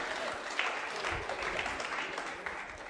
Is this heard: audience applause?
yes